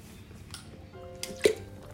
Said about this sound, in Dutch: Dus even een slokje drinken.